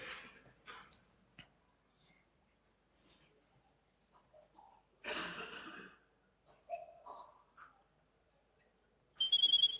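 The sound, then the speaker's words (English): Soft clicks, a burst of rustling noise and a few short electronic beeps, then a loud, steady high-pitched phone ring tone starts abruptly at the very end, as a call from a subscriber on a German network reaches the other phone. “The other phone rings, as expected.”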